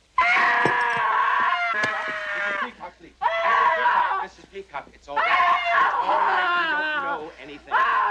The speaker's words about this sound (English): I had to stop her from screaming.